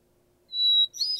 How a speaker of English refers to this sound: And for hermit thrush, what defines it for me is one or two introductory notes and a little bit of a warble or gurgle.